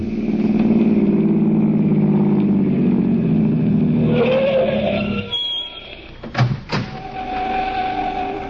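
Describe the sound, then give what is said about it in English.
A car engine rumbles loudly and revs up, then fades as the car pulls away, followed by a couple of sharp clunks and a quieter background hum. “Let's go for a drive.”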